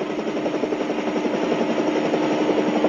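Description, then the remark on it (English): A helicopter hovers, its engine and rotor making a steady, loud, throbbing drone with a fast rhythmic pulse that never lets up. Nobody speaks. “You turn this egg-beater around and go back to the airport.”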